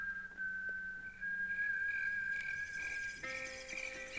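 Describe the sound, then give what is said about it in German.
A steady, sustained whistle holds one bright tone for several seconds over a soft musical backing in a self-produced intro for a series, then a fuller chord of instruments swells in near the end. “Und hatte da auch diesen Effekt genutzt mit dem Pfeifen.”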